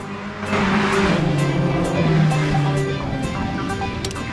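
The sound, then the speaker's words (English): Racing cars roar along a rainy track, their engines droning steadily beneath a constant wet hiss of spray. The noise stays loud and continuous throughout, with no voices. “Racing cars on a rainy track.”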